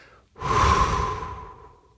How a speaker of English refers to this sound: And so with your hand on your belly button, I want you to push that out. Just push it out as you take a breath in. And then let the air escape through your mouth with just a little sound.